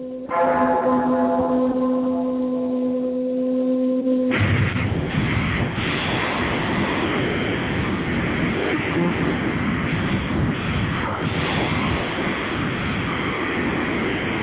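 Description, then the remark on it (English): Low tolling bells hum with long, sustained tones for a few seconds before a loud, sludgy slowed-down metal song crashes in, thick with distorted guitars and pounding drums. “So this is slow down, remember? They're like half tune bells.”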